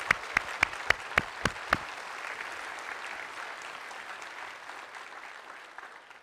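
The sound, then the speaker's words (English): A crowd at a feast claps for God after the music, in a steady unison rhythm, about seven sharp beats, then breaks into loose, sustained applause that slowly fades away. “Let's clap for God.”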